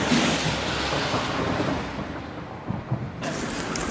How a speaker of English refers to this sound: Wandering westward along Jermyn Street now, in the London rain here, perhaps you can hear it pitter-patting on my umbrella.